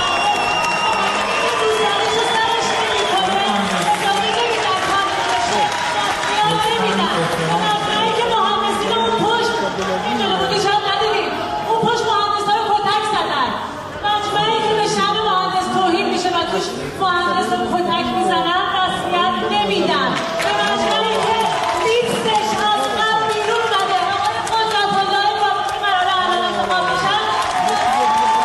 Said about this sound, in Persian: بله، این حرفا و این اکت اعتراضی با تشویق بیشتر حاضران مواجه شد که نشون میداد اکثر غریب به اتفاق مهندسا هم از این وضعیت دلشون خونه.